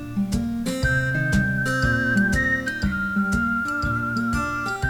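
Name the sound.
whistling melody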